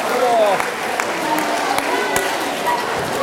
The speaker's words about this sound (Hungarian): Tapsoljuk meg őket is.